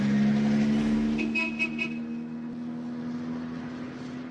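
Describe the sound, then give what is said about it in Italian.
A steady vehicle engine drone from road traffic of local cars in Galilee carries through the whole stretch, with three short, quick horn toots early on. No voices. “Oggi che sulle vie della Galilea corrono solo auto locali, il traffico è quello dei turisti e poco più.”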